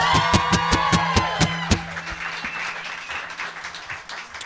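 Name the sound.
audience applause and cheering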